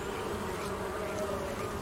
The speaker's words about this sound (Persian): سنجاقکام دارن بال میزنن. تو هم صداشون رو میشنوی؟